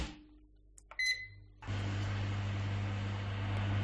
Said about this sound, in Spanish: calienta la leche en el microondas.